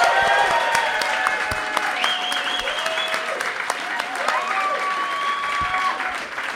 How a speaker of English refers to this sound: Big round of applause. And big round of applause as well for Mattress Mick for coming out here today.